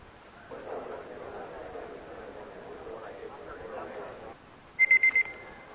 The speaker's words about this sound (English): Time's up. Don't you just love alarm clocks and clocks and just to make sure we had it all right?